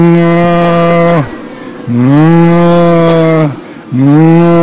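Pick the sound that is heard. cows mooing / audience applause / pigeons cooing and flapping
cows mooing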